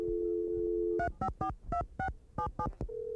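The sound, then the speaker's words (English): A steady telephone dial tone hums for a second, then a quick run of eight touch-tone beeps dials a number to place a phone call, before a steady tone returns. Clear, with no voices. “Let's see who we can get on the phone.”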